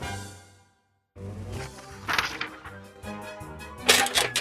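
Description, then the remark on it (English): Metal armor clanks and rattles in an uneven series of jangling hits after a short silence, with two louder, brighter crashes standing out and a faint ringing tone underneath, as a group of knights in armor walk towards a door. “The children heard a clanking sound behind them. A group of knights in armor were walking towards the door.”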